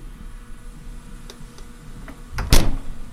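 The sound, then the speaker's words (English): A door opens for a visitor: a few faint ticks and clicks, then a sharp, loud latch clunk with a brief rattling scrape near the end. No one speaks. “Someone's at the door.”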